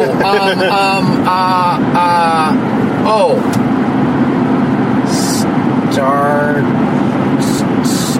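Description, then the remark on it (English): A voice mimics a revving car engine in a few loud, buzzing bursts that rise in pitch, over a steady low rumble with occasional hissy noise. “Starter your engines.”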